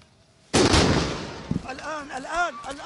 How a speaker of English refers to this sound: A second explosion suddenly occurred during the rescue operations. The Israeli military admitted to attacking the hospital and expressed regret over the civilian deaths.